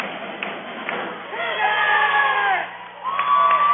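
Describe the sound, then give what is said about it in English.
A large crowd cheers and whoops continuously during the mid-set break at a girls' volleyball match between the Cougars and Sandy Creek, with high shouted voices rising above the roar. The noise dips briefly, then surges back up. “Great crowd on hand.”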